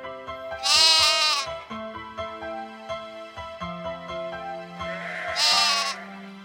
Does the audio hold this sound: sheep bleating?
yes